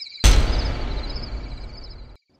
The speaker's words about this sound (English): He started his car and began backing up, when all of a sudden, he hit something with a loud thud.